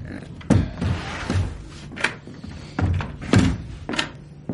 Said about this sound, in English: Hump, shut the doors and draw the slide.